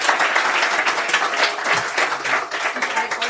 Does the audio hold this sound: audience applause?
yes